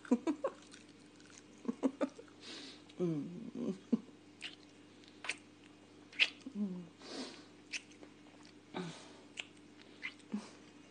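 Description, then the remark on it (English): Wet chewing and smacking of smoked bacon in irregular bursts, mixed with soft breathy noises and a few small high squeaks over a low steady hum. “You can't chew me bacon while you're kissing me.”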